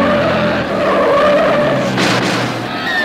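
A loud racing car roars with a sustained tire squeal, a high whining screech over dense engine noise, and a brief burst of rushing noise near the end. It is Harry Cummings' car, running third in a race and passing less than a lap behind the leading Ferraris.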